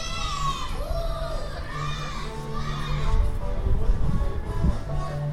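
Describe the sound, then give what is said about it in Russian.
A busy outdoor crowd at a Saturday food festival on Pochtovaya Street, with children's voices calling and chattering over a steady hum, faint music with a sustained low tone underneath, and a louder burst of shouting and commotion toward the end. “Улица Почтовая, суббота, вы уже слышите. Музыка, очень много народа, витают такие вкусные ароматы.”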